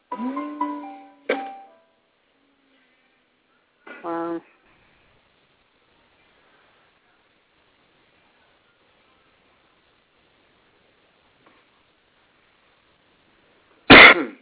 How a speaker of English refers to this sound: but he's having a coughing, he's coughing too much. There's something going around, I got it.